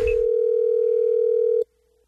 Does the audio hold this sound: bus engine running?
no